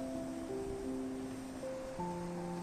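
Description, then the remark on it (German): Gentle waves roll slowly onto a beach and draw back in a soft, continuous rush, layered under calm, sustained musical tones. No one speaks. “Die Wellen rollen langsam an den Strand und ziehen sich wieder zurück.”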